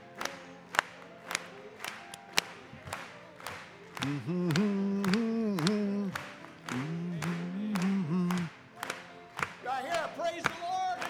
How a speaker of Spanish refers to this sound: Vamos a aplaudirle esta noche.